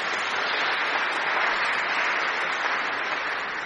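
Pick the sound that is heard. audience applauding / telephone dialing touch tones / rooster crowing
audience applauding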